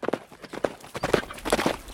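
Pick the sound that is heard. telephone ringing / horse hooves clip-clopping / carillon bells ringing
horse hooves clip-clopping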